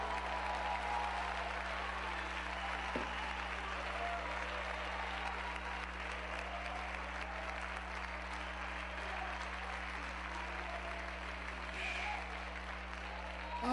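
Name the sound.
audience applauding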